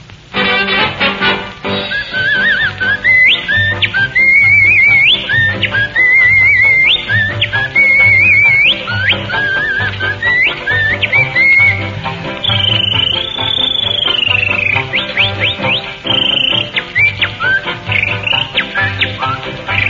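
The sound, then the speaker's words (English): A man whistles a lively, trilling tune that mimics birdsong, with chirps and warbling runs, over a steady, bouncy instrumental accompaniment, loud throughout. “our whistling virtuoso, will make a brief flight to the strains of Listen to the Mockingbird.”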